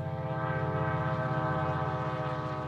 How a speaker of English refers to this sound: Commuter trains pass right by the Alviso Marina County Park, a small marsh in the heart of Silicon Valley.